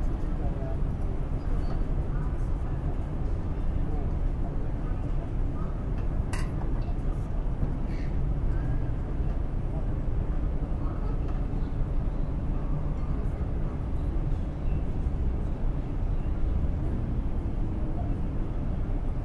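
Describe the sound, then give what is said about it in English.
A busy city street with a steady roar of passing cars and trams, the constant rattle of skateboard wheels, bikes going past now and then, occasional sharp clacks and metallic clinks, birds now and then, and faint voices in the background. “Cars, trams, skateboards. It's pretty much skateboards. Sounds of bikes going past every now and then.”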